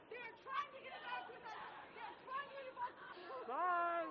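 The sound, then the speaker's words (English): Chatter from an outdoor protest crowd facing a line of police, moving along toward 4th Street, with a few people yelling in police officers' faces; many overlapping voices form a steady murmur, with occasional raised, shouting voices standing out near the end. “But a few people are getting a little closer to the police officers, yelling in their faces.”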